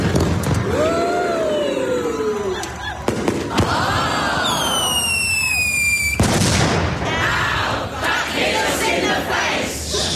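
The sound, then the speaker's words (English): Fireworks scattered inside a lit bonfire go off: high shrill whistles rise and fall, sharp bangs punctuate them, and a dense crackling hiss fills the later seconds, with faint crowd voices underneath. “And the fireworks that are randomly scattered inside it should go off any second.”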